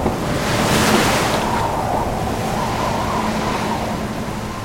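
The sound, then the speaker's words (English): Heavy, roaring ocean surf of 50-foot waves churns continuously with a gusty wind rushing over it, a loud, dense wash of crashing water that swells early and then rumbles on steadily without any voices. “50-foot waves envelop the captain. The ship trembles and groans.”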